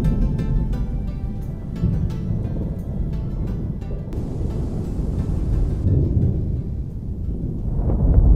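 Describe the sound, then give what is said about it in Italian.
A dark, rolling thunderstorm on a June evening rumbles steadily, heavy low roar filling the air, while gusting wind rises and swells louder toward the end. No voices are heard. “C'è un'aria scura di temporale, si sta alzando il vento, mentre usciamo insieme dal cancello di Villa Kellerman.”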